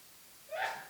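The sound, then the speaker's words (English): A single quick sneeze bursts out after a moment of quiet, short and breathy with a sharp hissing rush, moderately loud, with no one talking. “Bless you.”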